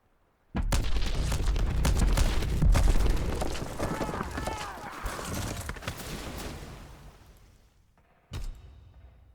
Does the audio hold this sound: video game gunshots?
yes